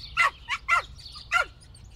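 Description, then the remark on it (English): Four sharp, high-pitched yaps from a small chatty dog welcoming a visitor into its owners' home in Esquimalt, near Victoria on Vancouver Island, in quick uneven succession, over a low steady background hum. “their small chatty dog, is there to welcome me into their home.”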